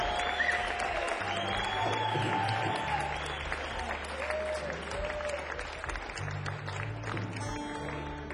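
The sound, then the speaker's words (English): Sustained audience applause for a band, with dense clapping and crowd noise, steady and fairly loud throughout, with some tonal sounds and murmurs mixed in beneath it. “Let's have a big round of applause”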